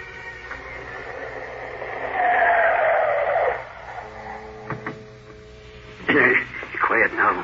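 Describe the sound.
A motorboat engine drones over a steady background hiss as it approaches a boathouse on the water in thick fog, swelling louder, then fading back; short bursts of voices follow near the end.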